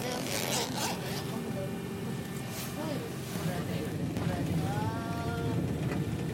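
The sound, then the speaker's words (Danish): On a bus at Vestermarie on a hot, sunny day, a zipper is pulled open in a few quick rasping strokes as a jacket is taken off, over the bus's steady engine drone with some faint voices in the background. “Man sidder lige i solen og sidder helt ude ved vinduet, så jeg tror lige, jeg tager min jakke af, faktisk.”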